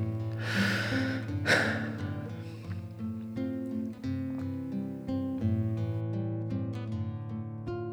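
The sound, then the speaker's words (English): A deep, slow, conscious breath is drawn in and let out, airy, over a steady, soft musical drone that continues alone afterward. “I invite everyone to take a conscious breath and just feel whatever feeling feels like to you.”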